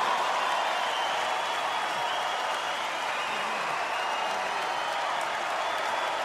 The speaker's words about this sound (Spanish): porque percibo tu emoción y la emoción que provoca al recibir el aplauso de tu gente y de tu público.